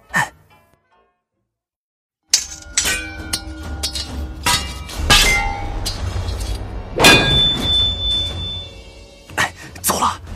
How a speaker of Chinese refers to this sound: 这么大，不是等于告诉人家我们在偷钟吗？ 赶紧捂住啊！ 你是不是傻啊？钟声怎么捂得住啊？